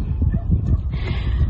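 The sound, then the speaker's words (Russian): A crowd of dogs, abandoned by their owners in flooded Kurgan, Russia, and being rescued by volunteers, barks and howls at once, a dense, overlapping chorus that stays loud throughout, with occasional higher yelps and whines rising above the din. “Воют и лают собаки.”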